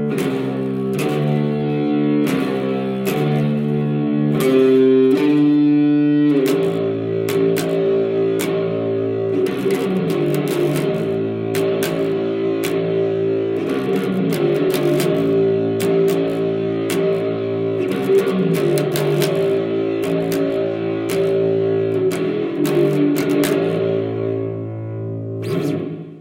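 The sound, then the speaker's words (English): Loud, distorted bass music plays throughout, thick and buzzing with sustained low harmonics, a brief rising shift around five seconds in, and steady dense sound with no voice heard. “Maybe you couldn't hear my voice at all as soon as the bass started playing.”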